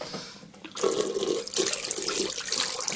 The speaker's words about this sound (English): Yeah, the water's fine. I know it sounds like a horse wee, but the water's fine. It's just the sound of other people brushing their teeth. I never realised I didn't like it until I heard that.